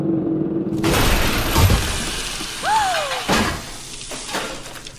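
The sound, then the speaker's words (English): A low mechanical hum gives way to a sudden loud crash as a drill, after hours of digging, bursts up through the floor of Vault 101 into a room, followed by rumbling, clattering debris, a brief squealing whine and another sharp impact. “After hours of dirt and sweat, the drill bursts through the floor of Vault 101 directly into the bashful blonde's room.”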